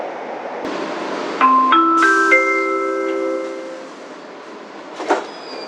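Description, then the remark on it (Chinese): An airport express subway train on the Daxing Airport Line, whose terminus is Caoqiao, runs with a steady rumble while its electric motors whine in rising, stepped tones through the middle. A brief clank comes near the end, with no voices. “地铁大兴机场线的终点站草桥。”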